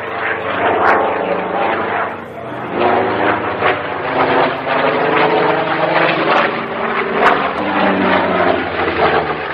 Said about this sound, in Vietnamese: Chiếc AC-119K nghiêng cánh.